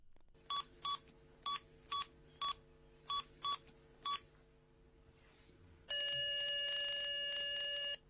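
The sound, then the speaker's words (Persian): A string of eight short electronic phone beeps, like keypad dialing, is followed by a long, steady telephone ringing tone as a caller waits on the line for a household-services agency to answer. The sound is clear, with no voices. “دیگه چه عادت هایی دارن آدم دو ساعت نگه میدارن پشت خط.”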